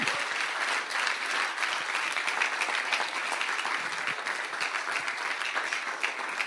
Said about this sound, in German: Hey, und lass uns Jesus noch mal Danke sagen durch einen Applaus.